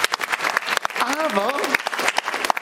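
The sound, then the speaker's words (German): An audience claps steadily throughout in applause for a team member's work, a dense patter of many hands, with a single voice calling out over the applause midway through. “Also ein richtiger Applaus für diese Arbeit.”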